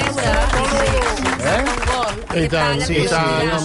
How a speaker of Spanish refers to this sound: L'aplaudiment per Manolo.